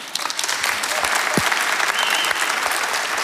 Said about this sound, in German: Genau, und gerne einen Applaus.